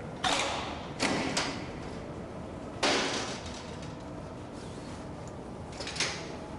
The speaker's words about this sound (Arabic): افتح الباب أيها الجندي. تفضل افتح.